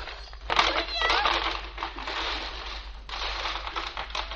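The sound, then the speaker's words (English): A piggy bank breaking: a loud crunch followed by several seconds of dense clattering and crinkling debris, with sharper bursts partway through. “What did you break?”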